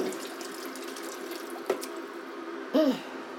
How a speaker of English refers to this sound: It's just my spoon that I used for my coffee was in the sink. I'll just rinse this a minute. Sorry about the racket with the water on the kettle. I do apologise.